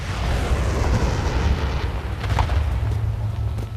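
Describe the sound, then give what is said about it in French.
Bombs exploding in the distance over Beirut rumble without pause, a heavy low roar of blasts blending together with faint crackles on top, no voices, just the steady muffled thunder of explosions far away. “Hein, et ce qu'on entend là, c'est le bruit des bombes.”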